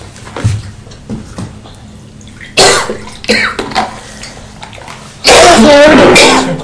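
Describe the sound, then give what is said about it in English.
Water poured into a beaker, loud: a brief splash, then a longer steady pour near the end with a rising, gurgling tone, amid quieter background shuffling and a soft cough. “Take one of these beakers. Just put some water in it.”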